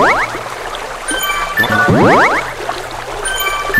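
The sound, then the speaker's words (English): Two quick rising, bubbly watery swoops, one near the start and one in the middle, like a cartoon game splash, as a player scoops water from a river in a video game, over a steady background hum with faint tinkling tones. “And yeah, you just hit enter while you're in the water.”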